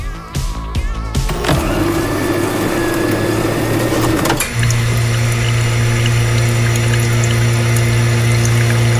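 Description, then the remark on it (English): A coffee machine whirs and clicks into action as someone dispenses a coffee, then its pump settles into a loud, steady buzzing drone as the coffee pours, with the hum deepening and steadying partway through. “Warum sich hier gerade jemand einen Kaffee rausgelassen hat?”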